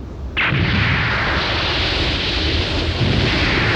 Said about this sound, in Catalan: Què passa? Ones de xoc submarines. Hi ha hagut una explosió.